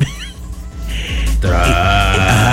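A drawn-out, low, croaking belch rumbles for about a second after a brief grunting onset, loud and buzzy with a rough, bleat-like tone.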